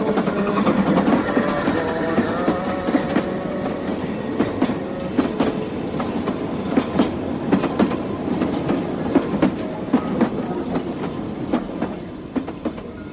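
A train that has just come out of a tunnel, leaving Barcelona, rolls steadily along the rails with a rhythmic clickety-clack of wheels over track joints, a continuous rumble with sharp repeated clacks throughout.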